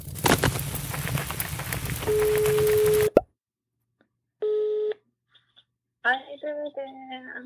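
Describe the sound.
A steady telephone tone sounds through a noisy stretch and cuts off abruptly. After a short silence comes a single ringing-tone pulse, then a voice starts talking.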